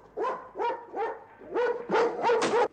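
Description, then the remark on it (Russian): A dog leaning against a glass pane barks repeatedly in a quick series of about seven harsh, mid-pitched barks, growing louder and more insistent toward the end, with no talking. “Пес оперся о стекло.”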